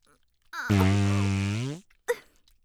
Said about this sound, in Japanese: やだ、またおならが。たっぷりかす抜きしたはずなのに、なら全然止まりませんわ。